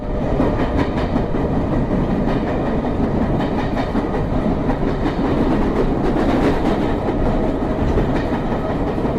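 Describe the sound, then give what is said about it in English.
A London Underground train rumbles past, a loud, steady roar of wheels on track with a rhythmic clickety-clack running throughout, with no one speaking. “The train going past the train. Kind of sounds like that, right?”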